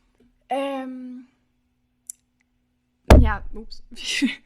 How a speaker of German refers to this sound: Voll gegens Mikro geknallt.